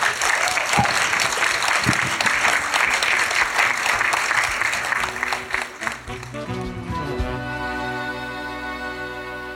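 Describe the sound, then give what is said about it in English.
Dense, steady audience applause with many hands clapping for about six seconds, then it thins out as sustained tonal music swells in and carries on to the end. “Round of applause.”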